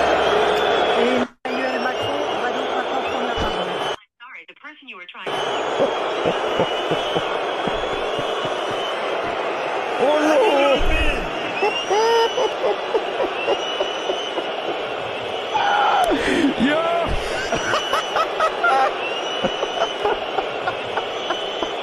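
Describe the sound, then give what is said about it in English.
A stadium crowd of tens of thousands at the Olympics boos Macron in a sustained, roaring wall of low jeering, broken by a couple of brief drops near the start, with scattered whistles and shouts rising through the din. “Macron booed by tens of thousands.”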